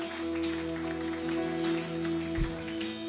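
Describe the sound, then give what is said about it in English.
After a prayer, a crowd claps for those people and God in a steady, continuous round of applause, a dense crackle at even loudness over a sustained low keyboard drone, with one soft thump near the end. “Come on, let's give those people and our God a round of applause.”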